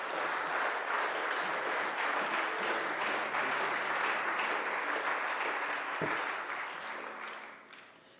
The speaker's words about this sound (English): Amen. Would you clap your hands for the man of God?